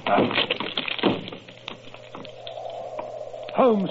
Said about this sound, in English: But Holmes, the door's locked. Break it in.